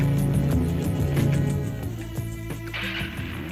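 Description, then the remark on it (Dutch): A loud jingle on 102.4 FM's Gospel Top 10 with a car engine revving, marking a big climber in the chart: rich sustained tones that rise and fall in pitch before settling, filling the whole few seconds with no talking. “Nou, als je de motor hoort, dan hebben we het te doen met een stipstijger.”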